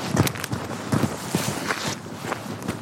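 Quick, heavy footsteps of a person running away outdoors on a cool, misty day, a steady series of thudding strides on the ground, fairly loud, with a breathy rustle of movement between steps.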